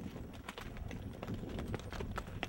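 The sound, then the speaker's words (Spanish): Horse hooves clip-clop in a steady, fairly quick rhythm as someone rides on horseback while filming, each sharp knock clear above a constant low rumble of outdoor noise. “Mi primera filmación a caballo, Dolly a caballo.”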